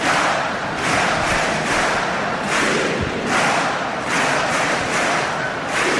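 A large crowd of 12 colles chants the independence slogan "Independència" in unison, loud and steady, its shouted syllables rising and falling in a regular rhythm over a constant roar of voices.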